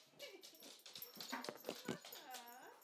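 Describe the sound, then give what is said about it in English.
An excited, shaking dog whimpers and whines in a rapid string of high, wavering cries and short yips, fairly quiet, ending in a longer rising and falling whine. “He's shaking. Oh, why are you shaking? He's pathetic. He's so excited. That's a nice doggy.”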